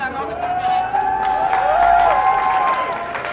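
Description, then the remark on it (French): At a general assembly at Sciences Po, a crowd claps steadily while voices cheer and call out as the school is declared renamed Institut Clément Méric; the applause is loud and continuous, with sustained shouted tones rising and falling above the clapping. “Sciences Po est rebaptisé Institut Clément Méric, sous les applaudissements.”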